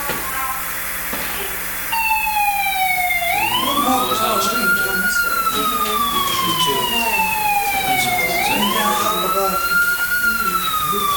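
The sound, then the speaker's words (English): A fire alarm wails loudly after a brief quiet start, its tone sweeping slowly up and down in long repeating cycles, with faint murmuring voices underneath. “But right now, in this recording, we're hearing a fire alarm going off, and so it's kind of stopped us a moment.”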